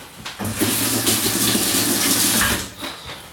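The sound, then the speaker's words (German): Water streams from a tap into a cooking pot, being put on for cooking Eisbein (pork knuckles), a steady loud rush lasting a couple of seconds with a hollow, humming resonance underneath, then cuts off. No one speaks. “Rinnentopf, Wasser aufsetzen.”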